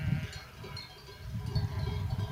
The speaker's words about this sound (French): On est parti 4 jours en vacances et je profite un peu d'un petit moment toute seule pour passer au milieu du troupeau de brebis, entendre les cloches, les voir pâturer, traverser le ruisseau.